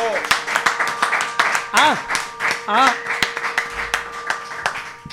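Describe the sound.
A studio audience applauds with dense, steady clapping throughout, and a couple of rising whoops or cheering voices break through partway, with the clapping carrying on to the end.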